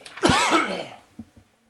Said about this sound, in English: Sorry, I was coughing.